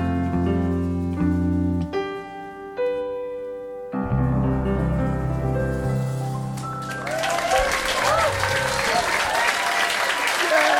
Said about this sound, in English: Yeah! Yeah! Clap, clap, clap! Yeah! Yeah! Clap, clap, clap! Doing the clapping!